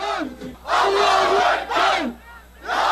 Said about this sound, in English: Crowds waved flags at the late-night rallies and chanted their determination not to let anything or anyone divide the country.